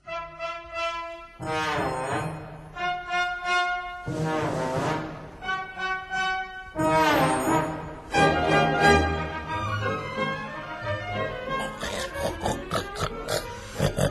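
A pig grunts and squeals over and over, loud, in drawn-out bursts that run almost continuously, with no voices talking.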